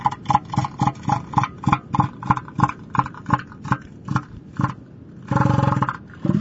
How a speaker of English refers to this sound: Elephant seals are huge, gray, and blubbery. They have a big snout and a very distinctive voice.